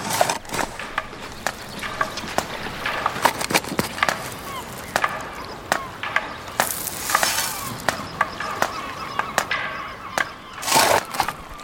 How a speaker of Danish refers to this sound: Du kan nu høre spader, der tungt og rytmisk rammer det vandmættede ler. Og høstkurve, der fyldes med mudder. Træpæle bankes i. Og jord smides på en voksende dæmning.